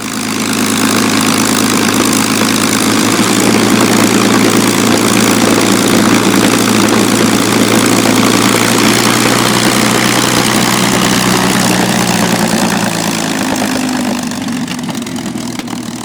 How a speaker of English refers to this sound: the Packard-built Merlin engine came to life with a thunderous roar